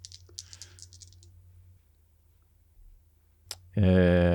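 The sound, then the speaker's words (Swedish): A die, rolled for a sneak check in a game, rattles and clatters briefly across a hard surface in a quick burst of small clicks, followed by a pause, a single click, and then a loud voice starting to speak. “Slår om en tärning.”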